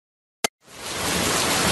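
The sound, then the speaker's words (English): A sharp click is followed by a steady, dense hiss of rain starting up and continuing evenly in a Zen garden, fairly loud, with no voices. “Maybe it was the rain.”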